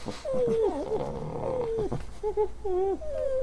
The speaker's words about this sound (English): Well, I can't understand a word those dogs are saying over there. I think they're doing their own radio show